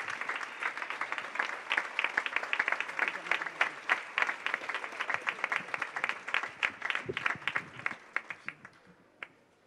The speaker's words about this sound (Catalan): Ens acompanya doncs el doctor, endavant si us plau, gràcies per ser amb nosaltres i el rebem amb aquest aplaudiment.